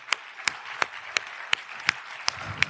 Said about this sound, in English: All right, let's give them one more round of applause, you guys. It's a beautiful thing.